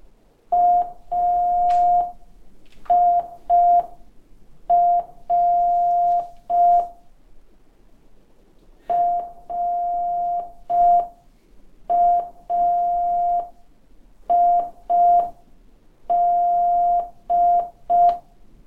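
A steady single-pitched tone keyed on and off in short and long beeps, spelling out a slowed-down training version of Morse code for learners, in clear groups with pauses between them, loud with no talking.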